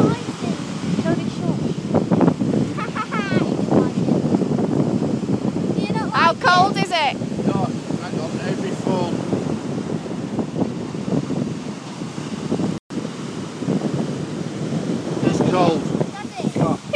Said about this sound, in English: But the waves are quite crashing.